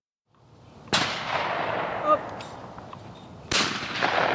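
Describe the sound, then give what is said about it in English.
Two loud shotgun blasts about two and a half seconds apart, fired by a group of men at orange clay pigeons at an Isaac Walton League skeet shooting range in Centerville, a Washington suburb, on a Friday morning; each has a sharp crack and a long rolling echo across open ground, with faint voices in between. “A group of men takes turns firing shotguns at orange clay pigeons at the Isaac Walton League skeet shooting range.”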